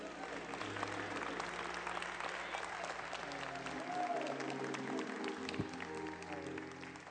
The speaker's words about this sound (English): In Jesus' name, thank you, Lord, for healing her. This problem will never come back again. Give the Lord a big clap, please.